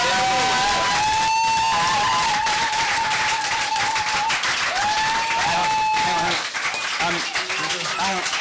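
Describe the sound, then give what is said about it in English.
A crowd claps steadily and loudly for several seconds, a dense wash of applause with voices calling and cheering over it, easing slightly toward the end. “We didn't hear you all clapping because we were also clapping ourselves.”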